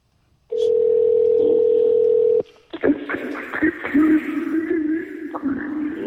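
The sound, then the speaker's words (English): A loud, steady telephone dial tone hums continuously for about two seconds while someone calls a phone number, then cuts off abruptly and gives way to muffled clatter and indistinct voice-like noise. “Did I not call the right number? Oh, that was an old number.”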